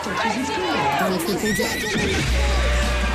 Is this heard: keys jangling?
no